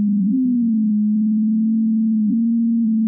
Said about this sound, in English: This is snow from January 2016, when a huge heat wave hit the South Pole and all the snow on the Ross Ice Shelf melted a little. Turns out, melting snow sounds different from healthy snow.